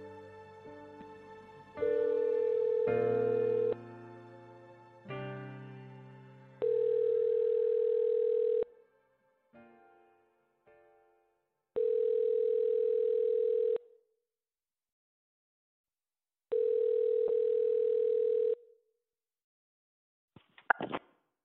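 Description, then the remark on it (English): A phone ringback tone plays while a call is placed to the caller's fiancé: four long, steady mid-pitched tones separated by pauses of silence, ending with a few sharp clicks as the line connects. “I called him.”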